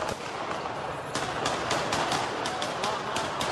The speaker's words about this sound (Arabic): رصاص، قنص، ضحايا ومشاهد ذكرت بالحرب اللبنانية.